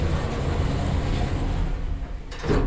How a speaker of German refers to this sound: Doch statt über die Himmelstreppe gelangen wir nun mit dem olivgrünen Aufzug nach unten. Abwärts. Tür schließt.